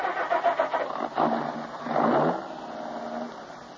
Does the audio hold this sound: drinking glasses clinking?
no